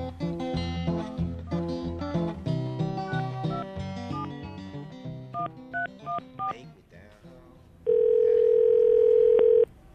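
Music plays, then a few quick touch-tone beeps sound as a phone call is placed, before a loud, steady telephone dial tone holds for about two seconds. No one speaks.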